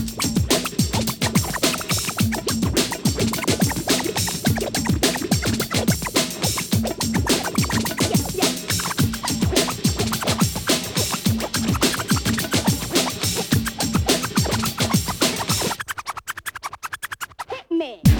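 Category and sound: sound effect, DJ turntable scratching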